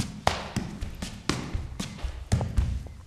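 Soft tap dance steps in ordinary ballet slippers, not tap shoes, strike a floor in an uneven rhythm, a series of muffled slaps and thuds with a few sharper accents, fairly quiet and with no voices.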